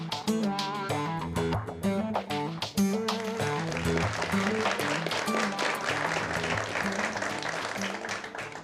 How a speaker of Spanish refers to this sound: Que estos aplausos sean para Dios, ¿verdad? Sí, porque me siento así como una pulguita, porque esto es para Dios.